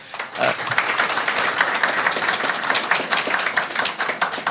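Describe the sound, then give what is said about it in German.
A crowd applauds the North Pole (Nordpol) team steadily, dense overlapping claps forming a continuous, fairly loud wash of sound that holds for several seconds without speech. “Dafür auch nochmal Applaus an den Nordpol.”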